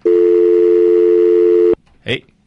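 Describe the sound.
A loud, steady telephone line tone from an incoming call drones for nearly two seconds, then cuts off abruptly; after a short pause, a brief burst of voice is heard.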